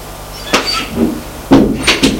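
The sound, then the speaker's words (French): A door under the stairs of a house is opened: a sharp latch click, a short creak, then a couple more knocks and clatters as it swings, all heard alone without any voices. “Ouvre une porte,”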